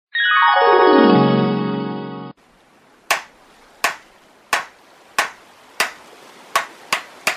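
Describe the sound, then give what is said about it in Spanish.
A sliding, buzzy tone falls in pitch, then a carpenter hammers on a wooden gunboat: eight sharp wooden knocks at uneven intervals, coming quicker toward the end, with no voices. “Baltasar Cuevas fue un carpintero que hizo las lanchas cañoneras que utilizaban los patriotas en el río Apure.”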